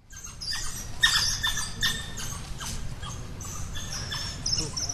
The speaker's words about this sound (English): Zoo Boise will open their new 2.5-acre Gorongosa National Park exhibit next week, which will showcase new African critters, such as wild dogs, whose unexpected chirps can be heard throughout the park.